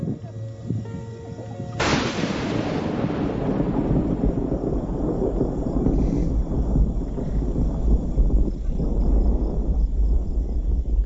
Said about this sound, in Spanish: Es una simple tormenta, pero uno de sus rayos ha golpeado a escasa distancia del campamento. Ha caído de repente, y tan rápido que no he tenido tiempo ni de asustarme. El estallido ha sido tremendo